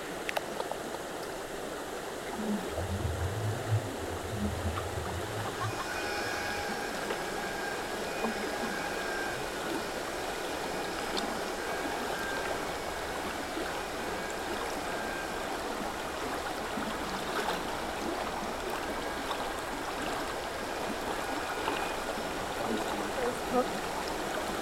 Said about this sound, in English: Or listen to the sound of water.